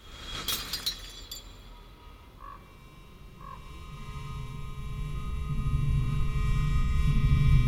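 An empty glass bottle is thrown out onto a field in the evening and shatters in a short, sharp crash near the start, followed by a couple of faint clinks as a low rumble slowly swells underneath. No one speaks.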